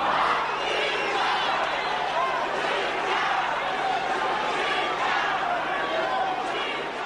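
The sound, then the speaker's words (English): A large crowd of Zimbabwean expats jeers and chants, interrupting a Zimbabwean leader's address and demanding that President Robert Mugabe step down; a dense, steady roar of many voices holds at a loud, even level for the whole stretch, with no single speaker standing out. “As you can hear, his address was repeatedly interrupted by jeering and chanting by the crowd, demanding that first President Robert Mugabe must step down.”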